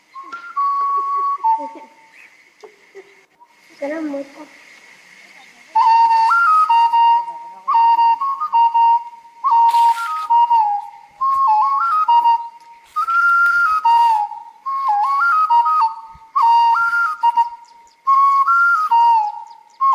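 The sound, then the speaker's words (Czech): A series of clear, warbling whistle-like notes, blown in short repeated bursts with brief pauses between them, loud, after a few quieter scattered sounds at the start. “Teďka to bude bez píšťalky.”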